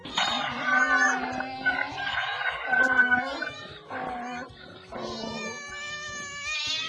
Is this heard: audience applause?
no